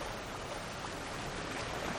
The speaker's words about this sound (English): He loves to walk along the shore. In the waves, he hears the sounds of a pulse, a soft percussion reaching his essence.